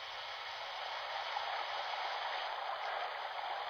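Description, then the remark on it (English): A steady, loud rush of water pouring heavily from a spout into a tank whose water level is down 6 feet, a continuous hissing torrent that holds even throughout with no voices. “Check on that water level, will you? Water level down 6 feet. Swing that spout over.”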